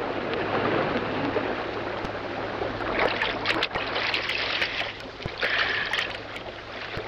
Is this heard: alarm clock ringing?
no